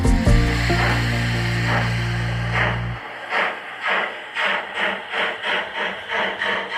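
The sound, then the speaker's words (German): A present-day model railway version of a Deutsche Reichsbahn steam locomotive starts with a steady, low droning tone for a few seconds, then breaks into a regular, even rhythm of hissing chuffs that continues to the end. “So hört sich eine Lokomotive der Deutschen Reichsbahn in der heutigen Ausführung an.”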